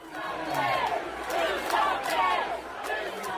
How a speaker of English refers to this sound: The night after the mass shooting in the Oregon District, thousands gathered for a vigil. When Ohio Governor Mike DeWine addressed the crowd, he was shouted down with chants demanding action.